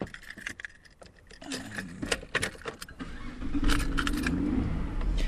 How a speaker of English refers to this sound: Now, like many new cars, when I turn over the ignition, the computer in my car does a quick service check, and then it tells me after a few seconds whether anything is wrong.